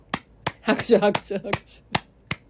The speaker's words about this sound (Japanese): 拍手。